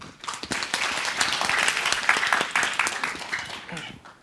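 An audience breaks into steady applause, a dense patter of many hands clapping at once that holds at a fairly strong level for a few seconds before easing slightly at the end, welcoming a lecturer to a talk on Office 365 for small and medium businesses.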